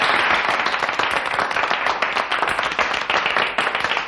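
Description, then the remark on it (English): Steady, sustained applause from an audience of gentlemen, many hands clapping densely together at a fairly loud, even level for several seconds with no voices over it. “Gentlemen, thank you for your generous applause.”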